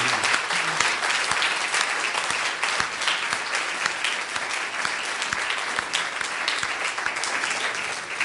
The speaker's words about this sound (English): And so the doctor said, we can give the Lord a hand clap of praise.